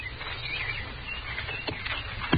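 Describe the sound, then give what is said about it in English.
A low, steady rumble with a few scattered knocks and clops as a horse-drawn wagon comes along a trail toward the listener, growing slightly louder toward the end. “It's a wagon coming this way.”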